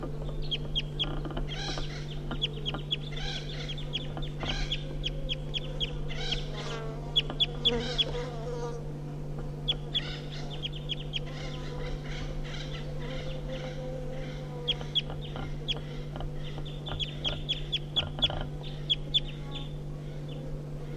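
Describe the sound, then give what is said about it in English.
Wild birds give flight calls at 9 o'clock: short, high chirps scattered throughout, sometimes in quick bursts, over a constant low droning hum. No one speaks. “So recording the wild birds giving flight calls now.”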